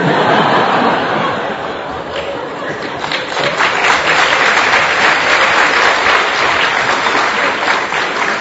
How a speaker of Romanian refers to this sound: Nu dați din palme, că nu-i de aplaudă.